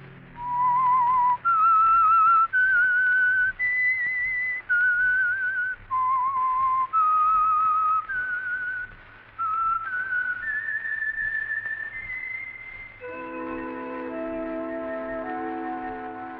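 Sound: whistled theme tune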